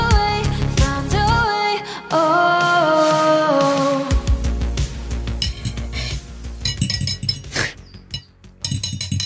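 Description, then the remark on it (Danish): Cutlery clinks and scrapes against a plate on a terrace in a steady, busy clatter, with bright ringing chimes of metal and china throughout. No one speaks. “Det her, det er lyden af bestik på tallerken på din terrasse,”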